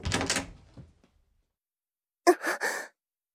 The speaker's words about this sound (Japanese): 年若い青年だろうかと想像しながらドアノブをひねる。